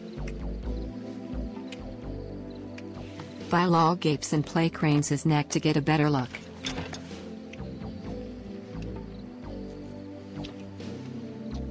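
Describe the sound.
Wet, squishy kissing sounds as a couple kiss passionately outside her house, beneath a soft musical backdrop, with a voice speaking briefly over them midway through.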